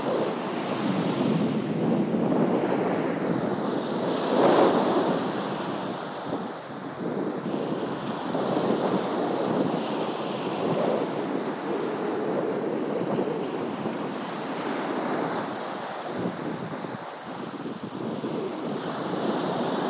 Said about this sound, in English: And I just want to listen to the waves. They're very relaxing. So I'm just going to pause and just hear the waves.